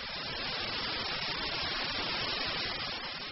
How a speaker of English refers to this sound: Let's listen to an example of white noise.